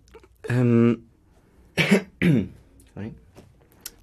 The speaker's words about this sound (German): Du darfst ruhig räuspern. Räuspern gehört dazu. Das ist nicht wie auf der Bühne. dort gehört es auch. Dort darf man räuspern. Das ist kein Problem.